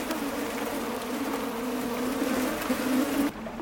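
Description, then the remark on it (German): A dense swarm of billions of salt flies buzzes over a caustic, chemical lake known for its limestone towers, in a steady, overlapping drone with a low hum underneath, loud and continuous before cutting off abruptly near the end. “Außer für Fliegen. Salzfliegen. Von ihnen gibt es hier Milliarden.”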